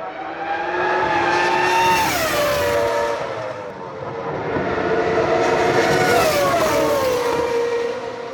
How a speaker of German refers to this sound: Das Boss GP-Rennen stellt ein besonderes Highlight dar, bei dem sowohl Formel 2 als auch ehemalige Formel 1 Wagen über die Strecke donnern. Wobei ihr legendärer Sound durch ganz Hockenheim hallt.